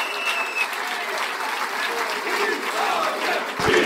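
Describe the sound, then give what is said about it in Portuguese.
Chega party supporters applaud and shout victory with dense, sustained clapping and scattered shouts and cheers, loud and continuous throughout, with a hint of voices mixed into the roar, after it is said that the PCP lost its deputy in Beja to Chega. “Os militantes do Chega a aplaudir e gritar vitória depois de Aventura ter dito então que o PCP perdeu o deputado para o Chega.”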